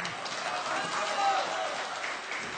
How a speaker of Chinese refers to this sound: 如果说唱的有哪儿不小心，哎，忘了，各位您别鼓掌。本来我这忘词儿我就紧张，您一鼓掌我连着急带害臊，我要死这儿您得负责任，是不是？忘了没关系，哎，现在可以鼓掌啊，谢谢。